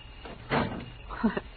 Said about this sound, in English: You didn't slam the door when you came in that time.